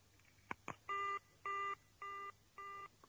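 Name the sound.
telephone ringing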